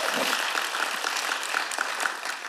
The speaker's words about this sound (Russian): И знаешь, я настолько дам Богу, можно за это дать аплодисменты.